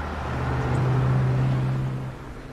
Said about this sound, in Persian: آه یه ماشین دیگه.